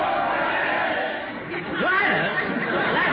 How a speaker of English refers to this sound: Yeah, listen to that crowd. Here they come running right past us.